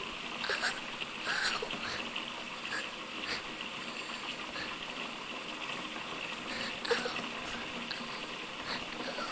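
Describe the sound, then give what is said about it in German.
A steady, hissing stream of cold water runs from a tap over a child's pinched finger for the whole stretch, fairly even, broken only by a few small splashes and clicks. “Läuft zum Kran an Zind. In kalt Wasser los rinnen darauf geschwind.”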